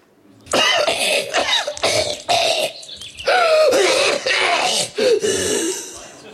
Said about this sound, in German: Wenn es nicht mehr braucht, als Huster abzuspielen, um eine Stunde zu füllen, dann machen wir das so.